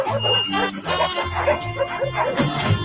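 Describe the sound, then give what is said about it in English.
A crowd of dogs barks and yips at once, a loud, dense chorus of overlapping barks that keeps going without a break for the whole few seconds. “This man had a lot of dogs.”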